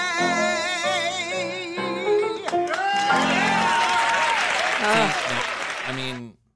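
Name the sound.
men applauding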